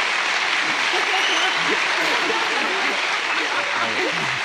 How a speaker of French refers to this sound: Je vous propose d'applaudir parce qu'il a été là tous les jours.